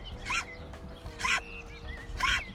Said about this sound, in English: And now it's time for some sheep sneezes, brought to you by TikTok. Bless you. Bless you.